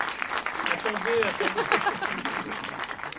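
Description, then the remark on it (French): An audience at a cinema applauds a film director from Crépy in the evening, steadily for about three seconds, a dense, even wash of clapping at fairly strong level, with a few voices murmuring faintly underneath. “On peut l'applaudir.”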